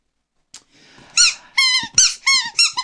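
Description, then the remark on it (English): A squeaky rubber chicken dog toy with a broken bottom, offered to Lola, lets out a series of five loud, wheezing squeaks in quick succession, each a strained, high-pitched honk, with a faint thud and some scuffling between them. “Come on, Lola, come and get chicken.”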